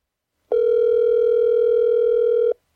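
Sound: telephone call ringing tone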